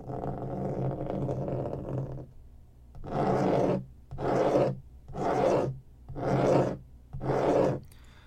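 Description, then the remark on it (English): Rough scratching by someone on the outside of a bathroom stall door: a steady two-second rasp, a short pause, then five loud, evenly spaced scraping strokes, each about half a second long, with no voices. “As you see feet now in front of the door of the stall, and someone is scratching on the outside of it.”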